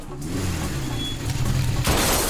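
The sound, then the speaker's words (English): The car chase from the film The French Connection, directed by Billy Friedkin: a low, loud engine rumble roars steadily, then a harsh burst of noise erupts near the end, like gunfire or a crash. No one speaks. “French Connection, which won the Oscar for Best Picture, which is the film that Billy Friedkin made before Exorcist, features famously a car chase.”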